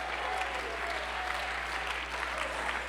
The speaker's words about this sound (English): Clap your hands. Lift your voice. Shout to God a little bit tonight.